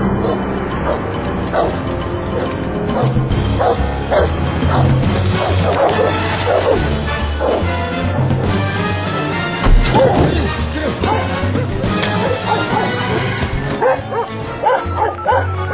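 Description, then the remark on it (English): Several dogs bark and yelp frantically in a loud, continuous frenzy, with whimpers and occasional thuds and crashes as if a scuffle is underway. “I don't like having to set the dogs on you.”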